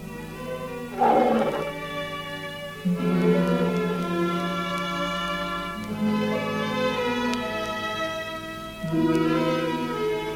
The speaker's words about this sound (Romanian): Tigrul Rajah a urlat sinistru noapte, marcând plecarea lui Fram de la circul Struțchi.